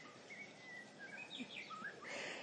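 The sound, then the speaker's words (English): Birds chirp and whistle outdoors in short, bright calls, several overlapping over a steady airy background hiss, with no voices. “I just love the birds here.”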